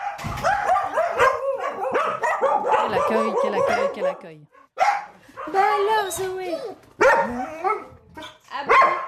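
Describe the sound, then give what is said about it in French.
Zoé, a female dog with separation anxiety, barks and yelps insistently at being separated from her owner, high-pitched and whiny, in rapid repeated bursts with a brief pause midway before the agitated yapping starts again. “Zoé, c'est une chienne qui vient au moins une à deux fois par semaine depuis septembre l'année dernière.”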